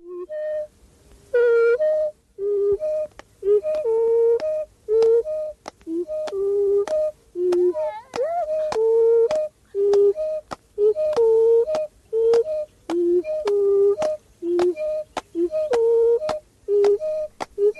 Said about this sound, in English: regularly alternating one sound, which is whistle, and another, which is song. And it makes a song. And it gets a little more complex. Here brings in also a clap to keep the beat.